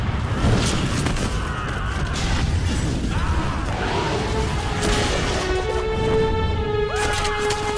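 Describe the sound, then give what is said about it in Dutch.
Cannon fire booms in a dense, rumbling bombardment of the town of Bergen by the army of Philip the Good, with cannonballs and burning arrows, repeated heavy blasts over a constant low roar, joined later by creaking, groaning tones and scattered crashes. “Na 2 dagen hebben de kanonskogels en de brandende pijlen voor een kleine ravage gezorgd.”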